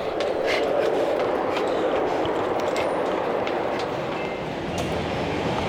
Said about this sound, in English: Oh, the train's coming. Oh, I know why she was running now. Oh no, it's coming.